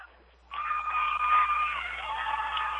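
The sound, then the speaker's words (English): A crowd at a nighttime football game with the Falcons, several people lining the fence, bursts into cheering after a quiet half-second, a sustained roar of shouts and whoops that stays loud and steady to the end. “Not a bad crowd tonight.”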